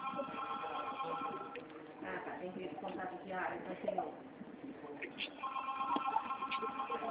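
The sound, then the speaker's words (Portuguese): A telephone ring sounds in steady, warbling tonal bursts at the start and again near the end, thin and narrow as if over a phone line, with muffled voices murmuring in between. “Telefone aqui, por favor, não vou entrar, se eu não tocar.”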